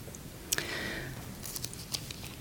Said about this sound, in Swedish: vi bläddrar fram ett blad i kapitel 8.